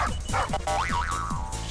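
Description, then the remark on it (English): Cartoonish video-game dog Spanky yips and bouncy boing effects repeat in a quick, rhythmic run over steady game music, fairly loud, with no voices. “And the dog Spanky.”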